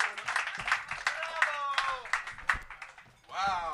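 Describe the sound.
An audience claps and applauds for a few seconds, with scattered cheering voices mixed in and a rising, sung-like shout toward the end.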